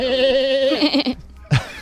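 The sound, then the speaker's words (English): An 11-month-old baby's cry that sounds remarkably like a goat's bleat: one long, quavering wail that breaks off, then a short second yelp, loud with no talking. “A calf bleeding? No, that's actually my 11-month-old.”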